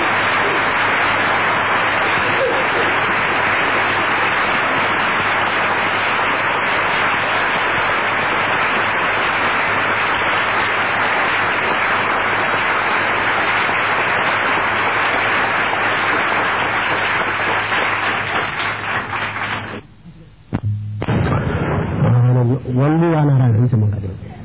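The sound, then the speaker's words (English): Sustained, dense audience applause, given to praise the name of the True Parents, fills about twenty seconds at a steady loud level, then breaks off abruptly, followed by a brief stretch of a voice speaking. “Once again, a great big applause.”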